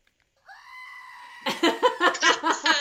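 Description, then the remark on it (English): A goat-bleat sound effect plays from a speaker held right next to a microphone: a long, wavering cry, followed by a rapid series of short, loud bleats in a stuttering rhythm, clear. “Where's the goat?”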